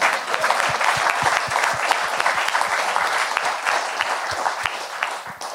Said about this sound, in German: Also nochmal Applaus für die Kakadus.